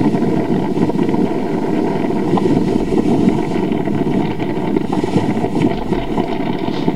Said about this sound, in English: And here's what the wind sounded like during that fire around midnight Wednesday night.